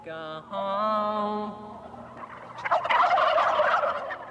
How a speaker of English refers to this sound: So he's actually playing a song, you know, sitting in a pen with 400 turkeys, which are all gobbling and stuff like that, while he plays this one folk song.